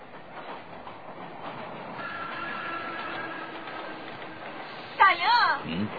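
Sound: train passing on rails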